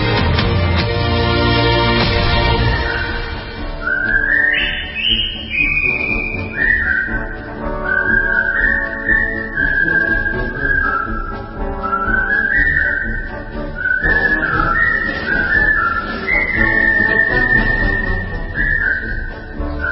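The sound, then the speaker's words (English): A clear, loud whistled melody weaves up and down over a full instrumental backing, starting a few seconds in and carrying a continuous tune through to the end. “Don't you wish you could whistle this?”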